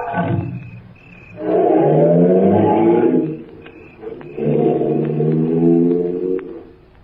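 A car engine roars loudly in two long revving bursts, its pitch climbing as it pulls away, with a brief lull between surges and no voices.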